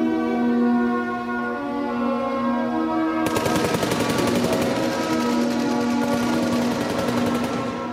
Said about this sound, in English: Yeah, that's gunfire. And she covers her ears during it and then takes them off and looks around kind of wide-eyed.